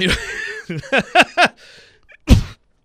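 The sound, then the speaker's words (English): A string of short, rhythmic snorting bursts with a laugh-like, voiced edge, a snarf without liquid, followed after a brief pause by one loud, harsh cough directly into the microphone. “There's me just coughing directly in the microphone.”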